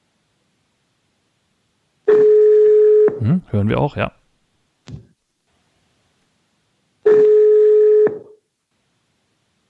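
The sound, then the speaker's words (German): Two loud, steady telephone ringing tones on an outgoing call placed by asking Alexa on a Gigaset Smart Speaker L800HX to call the BBSB counselling office, each about a second long with a pause of several seconds between them. A brief spoken remark falls in the gap. “Es läutet hin.”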